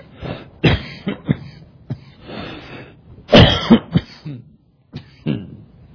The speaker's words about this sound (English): Pardon me. Did you know that cough was heard around the world?